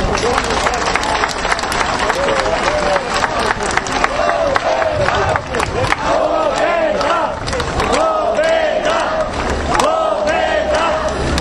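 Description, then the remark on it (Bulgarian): A large crowd at a Bulgarian political rally for the DSV-BDF coalition on a Friday evening applauds and cheers loudly and continuously after a speech by Zhaklin Toleva, chair of the Bulgarian Democratic Forum, dense clapping mixed with shouts and whistles that stay strong throughout. “Тези аплодисменти са и за всички вас, които отделихте от своето време, за да дойдете в тази петъчна привечер и да заявите своята подкрепа за коалиция ДСВ-БДФ.”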